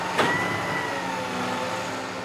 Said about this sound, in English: A few weeks later, when I stop by the construction site again, a truck is pumping the wet concrete through a wide hose up to the second floor, where about 15 men are moving fast to cover and smooth it out over a grid of rebar.